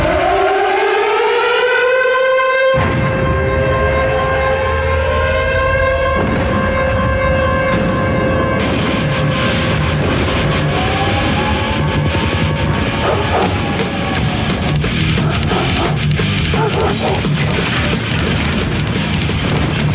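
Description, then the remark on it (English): A loud WWF wrestling entrance theme in thrash metal style that opens with a rising, wailing air-raid siren before crashing, pounding heavy music kicks in and drives on with the siren still sounding, with no voices. “The first lasted until November of 98, and it was just the song on its own.”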